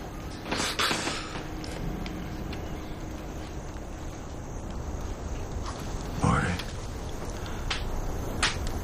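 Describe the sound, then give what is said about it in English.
A rocking chair creaks as someone collapses into it, with a short wooden groan early on and a louder drawn-out creak later, against a steady low background hiss. “Clark collapses into a rocking chair.”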